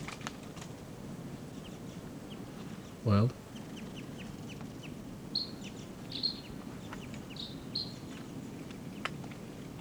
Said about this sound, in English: There's a crossbill right here off the camp in a ponderosa pine looking down. Type 2 bird giving calls.